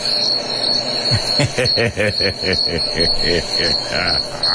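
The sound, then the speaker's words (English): A steady, high-pitched trill of chirping crickets runs unbroken through the whole clip, while a lower, rhythmic tonal sound pulses alongside it from about a second in. “Hold on, there he is. Yes, Mr. Cricket.”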